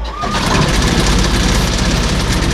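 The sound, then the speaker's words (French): A heavy military truck engine idles steadily, a deep rumbling chug with a regular pulsing rhythm that stays loud and even throughout, with no voices. “J'ai eu ce véhicule pendant toute mon école de crue”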